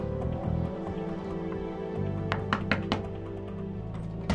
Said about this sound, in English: Lainey's hand knocks on a wooden door. From behind, she stands between stone walls and faces the door.